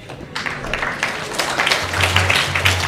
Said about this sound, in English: Giving a round of applause there.